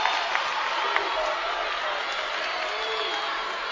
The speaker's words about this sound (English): And you can sense the Rebels crowd behind us starting to get into it a little bit more as the serve's put in play.